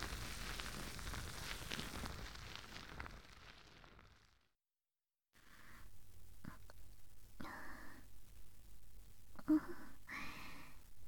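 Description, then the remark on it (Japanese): Foam bubbles in the ear fizzing during an ear cleaning, with a soft, steady hiss full of tiny crackles and pops, briefly cutting to silence midway before resuming with a breathier, uneven crackle. “泡がだいぶ減ってきましたね。”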